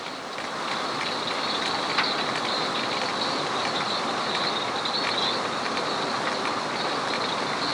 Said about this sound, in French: Que de boucans, n'est-ce pas? Eh bien, ce sont les chaluts. Et là, il y en a des centaines.